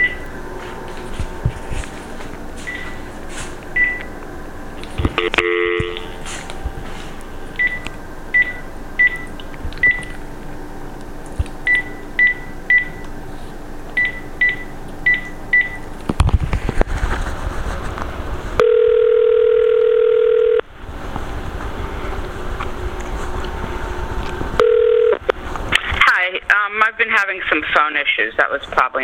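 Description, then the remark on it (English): A telephone line with a steady dial tone, interrupted by quick series of short electronic dialing beeps in clusters, followed by a sustained tone and some garbled line noise near the end, from a phone having issues. “Some phone issues. That was probably my phone.”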